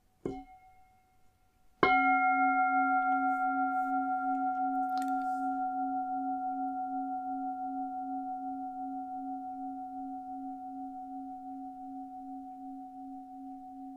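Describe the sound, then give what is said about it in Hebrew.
A single struck mindfulness bell, used to guide a meditation practice, rings out with a clear, sustained tone, its shimmering hum slowly fading over many seconds, preceded by a soft light tap. No one speaks. “במהלך התרגול אני אנחה אתכם במיקוד מסוים בגוף דרך הנשימה, ואני אזמין את הפעמון, ונשמע ככה.”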